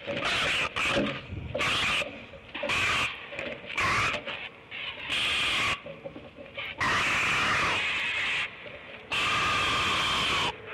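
A great blue heron, a mother, puffed up and screaming in a series of loud, harsh, raspy bursts, some short and choppy, others drawn out for a couple of seconds, with brief gaps between them and no talking.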